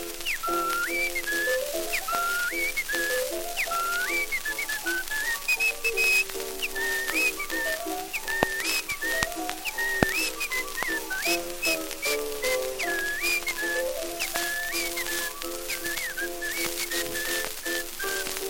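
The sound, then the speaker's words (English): Someone whistles a lively, bouncing tune at a steady tempo, carried over a bed of instrumental accompaniment and constant crackly, clicking percussion, with no talking. “He'd whistle night and day in his own peculiar way.”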